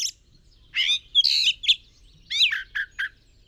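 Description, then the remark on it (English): A jay gives a series of harsh, raspy calls in two close bursts, loud, with short pauses between the notes and no other sounds around them. “For a jay that lives in the forest is its habitat, where it finds food, water, shelter, and the company of other jays.”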